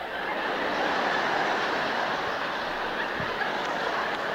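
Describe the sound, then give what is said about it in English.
A big UPS truck pulls away with a steady, harsh mechanical roar, its gears grinding under a dense, unbroken rumble that holds at an even loudness for several seconds. “Stripping the gears.”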